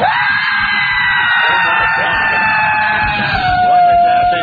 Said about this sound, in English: Like five different people screaming. It sounds like different people in my voice.